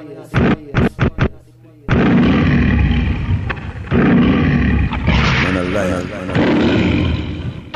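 A lion roars loudly: a few short, chuffing bursts, then a long, rumbling roar that fills the rest of the moment with heavy, rough sound.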